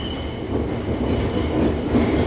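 A subway train rumbles steadily through a station, a continuous loud low roar with faint metallic rattling and wheel noise, with no voices.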